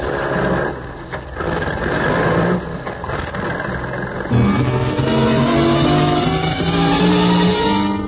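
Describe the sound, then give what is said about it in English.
A loud truck engine rumbles steadily, its pitch shifting and rising partway through as the truck swings around a loading platform. No voices are heard. “You swing the truck around the loading platform where you agreed to meet the Baron.”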